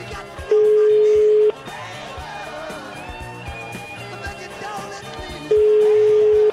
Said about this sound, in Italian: Facciamo un tentativo, squilla il telefono, eh? Tutto in diretta, fermi.